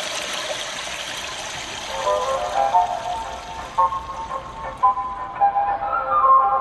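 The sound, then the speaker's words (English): A Japanese public-restroom privacy device plays a recorded toilet flush on its own to mask noise: a steady rush of flushing water, broad and hissy, with small gurgles and bubbling tones rising toward the end, as if from a small speaker. “A device that mimics the sound of an ever-flushing toilet.”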